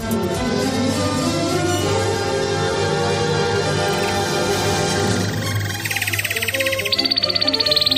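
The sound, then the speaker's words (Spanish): A bright musical jingle, the 'trino del conciso' of a Spanish radio news segment, gives way to a rapid, high-pitched bird trill that pulses quickly and steps up in pitch near the end. The sound is fairly loud, with no talking. “Suena el trino del conciso, es información confidencial de Carlos Dávila.”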